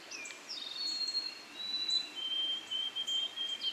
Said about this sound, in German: Und immer mehr Vogelstimmen hörst.